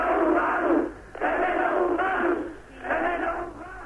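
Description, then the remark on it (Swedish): A large demonstration crowd in Bratislava, listening to Dubček, chants in unison in Czech, demanding a new government: loud rhythmic bursts of many voices rising and falling in repeated phrases with brief dips between them. “Och det Dubčeks åhörare kräver på tjeckiska är en ny regering.”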